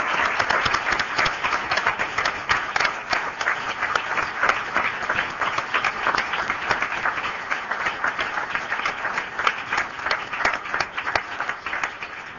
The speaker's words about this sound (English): We also want to thank you all for your wonderful presentation this afternoon. I think the audience would like to join us in a round of applause to the institution.